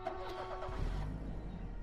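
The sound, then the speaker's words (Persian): A car engine turns over and catches as the traffic clears, settling into a steady low rumble with a brief rise in revs, moderately loud, with faint traffic noise behind it. “ترافیک وا شد.”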